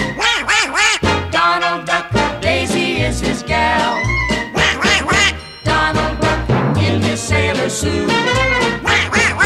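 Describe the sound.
A squawky, quacking Donald Duck voice sings continuously over a bouncy musical backing with steady bass notes, loud for the whole stretch, the nasal quacks rising and falling with the tune.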